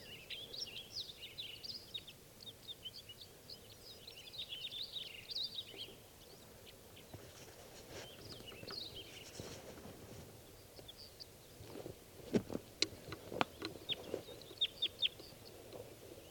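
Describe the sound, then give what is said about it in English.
High, thin bird chirps twitter in quick clusters for the first few seconds, then fade, followed later by a series of sharp clicking knocks over a steady low background rumble. About three birds, two males and one female, call from spruces near a net setup. “One bird just swooped down, saw the net, and then went back, and that was a female.”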